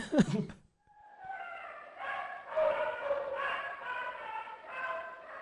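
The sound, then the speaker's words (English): A deaf cocker spaniel gives a run of whiny, drawn-out barks that blur into high, nasal whimpers, several in a row at moderate volume, after a brief sharp sound at the start. “Hear the whiny dog? Yeah. That's the deaf cocker.”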